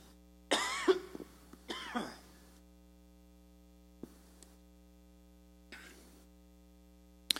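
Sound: coughing and throat clearing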